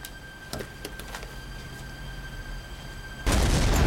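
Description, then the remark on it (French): After a quiet, humming stretch with a few faint clicks, a sudden loud explosion booms in near the end and roars on in a dense, rumbling burst. “Mais à 2 heures du matin, le bruit d'une explosion le fit se précipiter à sa fenêtre.”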